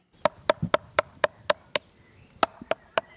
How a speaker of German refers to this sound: Das ist der Schonhammer, damit klopfe ich jetzt mal. Aber das hier ist alles festes Holz, das heißt, da braucht man sich keine Sorgen machen